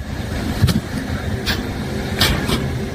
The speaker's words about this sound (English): All right, so now the first snap sound is the road buckling. The second sound is the car crashing after going airborne.